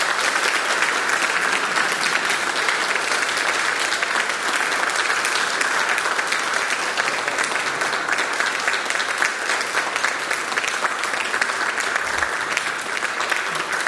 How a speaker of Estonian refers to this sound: Aplaus!